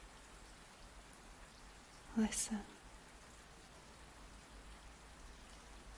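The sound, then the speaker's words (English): Soft, steady rain patters against windows throughout, a faint, even hiss with no pauses. Partway through, a single quiet word is whispered briefly over it. “If you listen very carefully, you can just make out the gentle pattering of the rain against the windows.”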